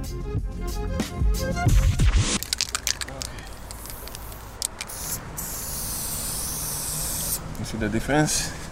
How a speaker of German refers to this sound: Mit dem einen Ventil auf der Dose zieht er dicke Linien für große Flächen. Mit dem anderen feine, scharfe Ränder.